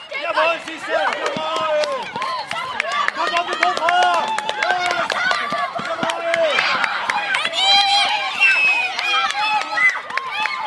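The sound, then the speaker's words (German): Teachers and many other voices cheer and yell encouragement for their class without pause at a school relay race, a loud, dense tangle of overlapping shouts with sharp rising calls poking out, kept up for the whole stretch. “Selbst die Lehrerinnen und Lehrer feuern ihre Klasse, wie hier beim Staffellauf, mit großem Enthusiasmus an.”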